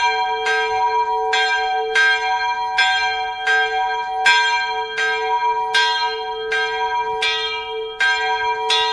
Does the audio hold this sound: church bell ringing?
yes